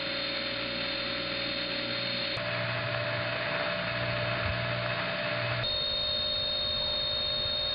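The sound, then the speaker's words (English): Several steady howl tones drone together over a hissing telephone carrier trunk line. Their pitches shift abruptly twice as adjacent channels come into use or go off hook. It is a constant, moderately loud hum with no voices. “Often there's more than one of those howl frequencies.”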